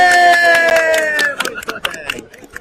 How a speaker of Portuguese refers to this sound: Uma salva de palmas para ele!